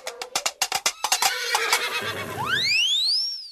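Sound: horse neighing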